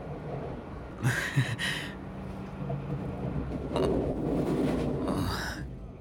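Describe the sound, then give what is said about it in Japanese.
A steady low rumble of a moving electric train carriage that sways a lot, with occasional louder rattling and rushing bursts as it sways along, heard from inside. “この電車、よく揺れますよね。”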